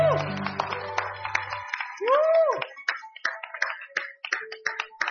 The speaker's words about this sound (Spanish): ¿Nos pueden darle un aplauso?